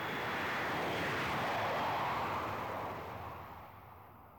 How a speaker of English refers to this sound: And then the plane took off.